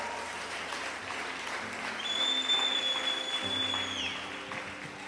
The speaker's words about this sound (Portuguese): Aplauda isso, aplauda essa verdade.